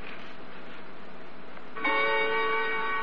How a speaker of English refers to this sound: That clock. Where did you get it? Which one? The one that just chimed. There on the mantelpiece. Oh, that one. A beauty, isn't it? That clock belonged to my great-grandmother.